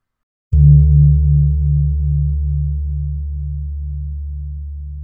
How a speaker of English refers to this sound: It employs 2 very large gongs called the gong agung, or great gongs, plus a medium-sized gong, the kumpur. Here is the lowest gong agung, which is identified as the female gong.